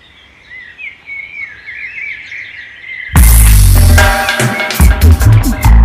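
Birds chirp and twitter in quick, overlapping calls over a quiet background for about three seconds, then a sudden loud, dense burst of music abruptly takes over and drowns them out.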